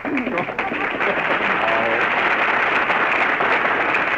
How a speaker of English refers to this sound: All right, folks, you made your applause. Now lie in it.